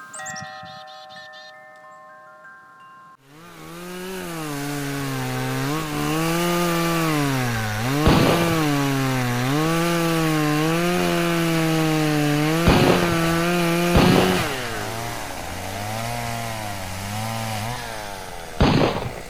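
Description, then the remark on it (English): After a brief chiming tone, a chainsaw roars to life and cuts firewood in autumn, its loud buzzing engine wavering up and down in pitch, punctuated by a few sharp cracks. “Well, in my neighborhood, human noise still resounds as deer hunting and firewood gathering dominate and resonate.”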